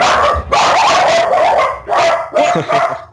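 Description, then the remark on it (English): A dog barks and yips repeatedly in a few loud bursts, with a whiny, whimpering edge between them and no talking. “The dog.”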